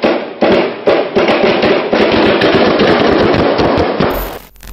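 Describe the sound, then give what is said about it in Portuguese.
Loud, rapid bursts of automatic gunfire, like a rifle firing in quick succession, crackling densely for about four seconds before cutting off abruptly. “Faltou explicar que outro resultado poderia ser obtido com duas rajadas de fuzil somando 82 tiros contra civis desarmados.”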